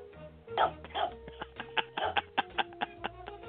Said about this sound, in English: Nice healthy barks.